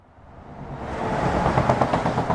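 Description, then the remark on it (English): A heavy truck's broad, roaring rumble swells steadily as it approaches and passes under a highway bridge lined with plastic mesh and barbed wire, at the southern end of a migrant camp in Calais, France, heading to or from the port; loud road noise with no voices. “Trucks headed to and from the port of Calais pass under this bridge at the southern end of the jungle.”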